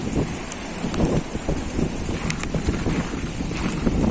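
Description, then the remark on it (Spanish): A volcanic eruption on La Palma, its lava advancing slowly toward the sea, rumbles on without pause, a deep roaring drone with a wind-like hiss over it and a few sharp crackles breaking through. No one speaks. “Mira, hablando de explicar cosas, la erupción en La Palma sigue avanzando lentamente hacia el mar.”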